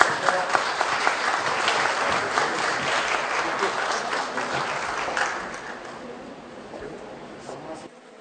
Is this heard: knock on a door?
no